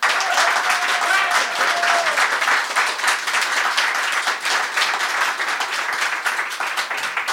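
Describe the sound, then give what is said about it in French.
Sustained applause from an audience voting for a singer on an applause meter: a dense, steady wash of many hands clapping at once, loud and even for the whole stretch without fading, with no one speaking over it. “Ok, alors applaudimètre pour … en premier.”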